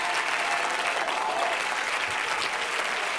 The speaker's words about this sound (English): Somebody say praise the Lord. Somebody clap your hands unto him and bless his name.